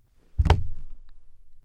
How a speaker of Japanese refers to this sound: 椅子が壊れて、女の子は尻餅をついてしまいました。